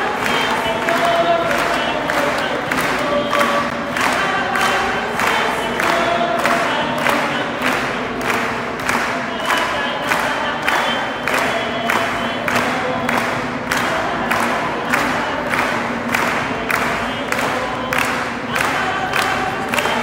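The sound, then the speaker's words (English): A crowd in a church, among them nuns, claps in a steady, fast rhythm for about twenty seconds as a woman dances, with cheering and raised voices mixed into the sustained, fairly loud din. “Some of the nuns aren't clapping.”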